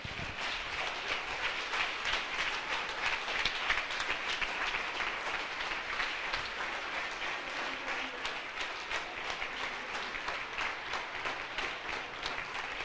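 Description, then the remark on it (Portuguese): A church audience applauds God for the elderly members present, a dense, even wash of many hands clapping at once that holds a constant loudness for the whole stretch, with no voices rising above it. “Agora nós vamos aplaudir fortemente a Deus pela terceira idade que está entre nós.”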